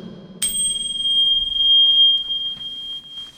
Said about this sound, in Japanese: 最後の鐘が優しかったですね、うん、力強くそして優しく、 そう、 はい、あの鐘を鳴らしにリスナーの皆さんも そうです、ね、 はい、 このコントラストが嬉しいですね。